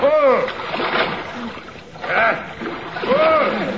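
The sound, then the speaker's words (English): Oars of a rowboat splash and churn steadily through water while loud shouting voices ring out over the sloshing, the wash of water continuous. “Unship your oars.”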